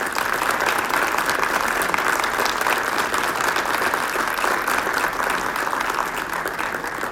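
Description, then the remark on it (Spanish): A crowd claps steadily and loudly for several seconds for the wife of the governor of the state of Puebla, a dense, continuous wash of applause with no speech over it. “Asimismo, pido un aplauso para su esposa, que ha sido su compañera de muchas batallas,”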